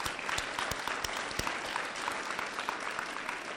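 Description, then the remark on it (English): A church audience claps steadily together, dense applause with many overlapping hand claps at an even, sustained level from start to finish. “Hey, we want to give you a round of applause and just tell you thank you from our church.”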